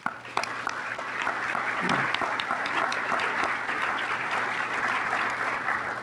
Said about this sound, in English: anyone in the room that's not a U.S. Bank employee that serves or has served for the military, for the United States of America, please stand and let us recognize you with our applause and our thanks for that as well.